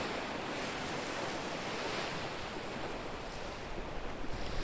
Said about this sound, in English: Being really aware of how everything seems to know what its job is, that the repeating nature of the waves is so soothing. So reassuring. Whether you're watching or not, these waves just keeping up, coming up on the sand, doing their job.